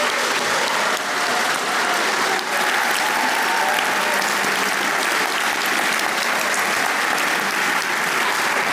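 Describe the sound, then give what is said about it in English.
Sustained applause from a large audience at a Radio Academy awards night, applauding the judges, a dense wash of clapping that stays loud and steady for the full length with no one speaking over it. “So first things first, will you please show your appreciation with a round of applause for our judges who give their very busy time for free.”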